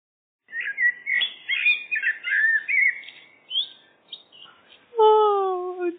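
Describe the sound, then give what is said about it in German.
A blackbird sings a clear run of fluty, warbling phrases with short pauses, followed by a sustained, lower harmonic tone at the end. “Eine Amsel setzte zu einem wunderschönen Solo an, das Blub direkt ins Ohr drang.”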